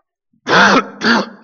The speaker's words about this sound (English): Once I get over the coughing spell, I'm okay.